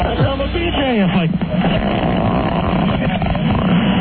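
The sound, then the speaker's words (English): A fart recorded on a tape recorder plays back through a tinny, muffled speaker, starting with squeaky sliding pitches and then turning into a long, rough, sputtering buzz that lasts several seconds. “I swear to God that was a real fart.”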